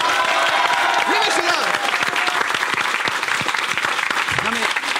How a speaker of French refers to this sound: Regarde comme c'est beau, les gars, quel beau décor, quel beau public, on applaudit le public.